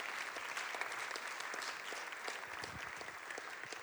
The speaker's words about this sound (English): Can we give him a hand clap as he joins us?